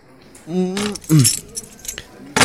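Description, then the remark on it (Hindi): A bunch of room keys for room 203 jangles in several bright, metallic bursts as they are handed over at check-in at the Heritage Hotel, Mumbai, with brief snatches of a voice in between and a final clink at the end. “ये रहा आपका रूम का चाबी, योर रूम नंबर इज 203।”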